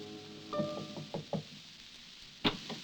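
A man knocks quietly on a wooden door in the cold gray light of morning: a few soft knocks spaced unevenly, followed by a brief pause and one slightly sharper rap, quiet with no voices.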